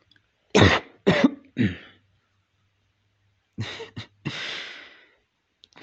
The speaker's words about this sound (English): The way your eyes widen so fast when I cough.